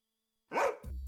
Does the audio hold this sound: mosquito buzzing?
no